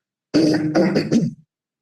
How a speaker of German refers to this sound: muss mich ständig räuspern. Das tue ich jetzt noch mal ausgiebig,